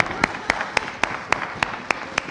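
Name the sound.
audience clapping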